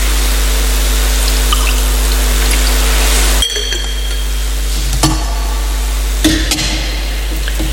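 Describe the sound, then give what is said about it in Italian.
A thin, steady trickle of water being poured into wine for a few seconds against a low electrical hum, then stopping, followed by a couple of soft clinks of glass or metal being set down. “L'acqua unita al vino, se segno della nostra unione con la vita divina e approvata, assume la nostra natura umana.”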